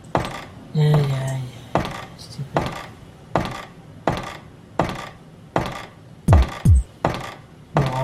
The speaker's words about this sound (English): There we go. Nice key jiggling sound.